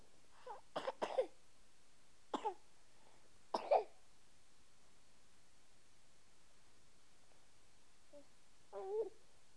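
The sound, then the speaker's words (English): A person coughs in several short, harsh bursts—two or three quick coughs, then single ones spaced apart, with a softer throaty sound near the end, against a quiet background hiss. “let's go find your cough medicine.”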